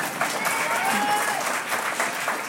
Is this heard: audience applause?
yes